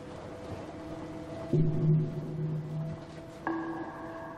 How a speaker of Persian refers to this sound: میگم لباسشویی هنوزم کار میکنه.